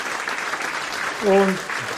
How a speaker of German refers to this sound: Bitte einen herzlichen Applaus an unsere Vertreter hier im Nationalrat.